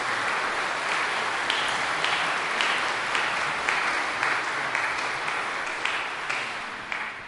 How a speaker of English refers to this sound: Today is called Palm Sunday, and I want to give a round of applause to our Sanctuary Guild. Look what they did to this sanctuary.